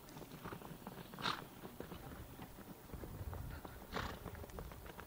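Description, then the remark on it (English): Hooves of horses galloping on the ground, a rapid, uneven clatter of hoofbeats with a couple of sharper thuds, growing somewhat louder as if approaching. No voices. “I hear the galloping of the horses as they approach us and about to stampede us.”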